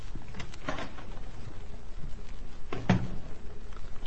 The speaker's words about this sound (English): He went out, and I heard a key turn in the lock of the door.